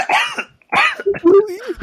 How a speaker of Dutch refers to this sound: Ik kan naar jullie hoesten. Ik hoest naar Rotterdam.